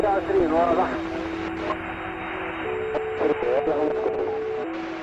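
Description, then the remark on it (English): Crackly marine radio transmissions picked up by scanners on a boat during a 40-mile trip on the Mediterranean Sea: garbled, band-limited voices of fishermen and passing yachts cutting in and out, steady tonal hums shifting pitch underneath, and brief dropouts of static throughout. “What you're hearing are the sounds captured from a 40-mile trip around the Mediterranean Sea.”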